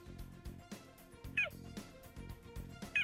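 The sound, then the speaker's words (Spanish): Two short, high-pitched chirping meows from a cheetah, the only big cat that does not roar, about a second and a half apart, ringing out clearly over a steady rhythmic music bed. “Bueno, pues aunque parezca mentira, este es el maullido del guepardo, el único de los grandes felinos que no ruge y el animal terrestre más veloz del mundo.”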